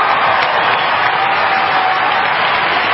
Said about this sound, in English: So I'm going to say bravo and have some applause.